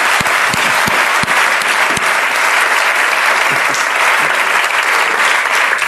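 Sustained audience applause fills the whole stretch, dense and loud with steady clapping from many hands, a few sharper individual claps standing out near the start.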